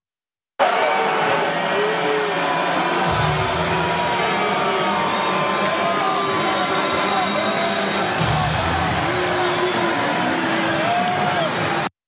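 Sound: arena crowd booing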